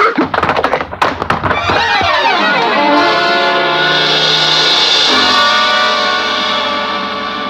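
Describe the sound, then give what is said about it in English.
A quick cluster of heavy thuds, as a person is struck and drops to the floor in a hall, gives way to a long, ringing, warbling swell that slowly fades. “I came to where I had fallen in the hall.”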